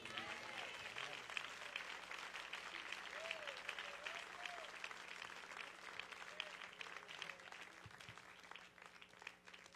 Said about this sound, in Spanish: Vamos a darle ese aplauso más fuerte al Señor si usted puede.